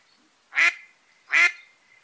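bird, ducks quacking

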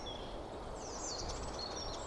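bird, birds singing outdoors

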